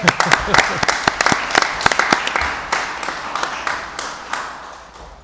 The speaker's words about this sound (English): So that was our junior ROTC, newly instated from Lyndhurst High School. I guess they're not here, but I'd love to give them a round of applause.